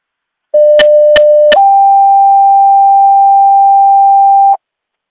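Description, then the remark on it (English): A loud electronic fire dispatch paging alert: a steady pure tone broken by three sharp clicks, then a slightly higher sustained tone holding for about three seconds before cutting off, with no voices. “disregard your tones.”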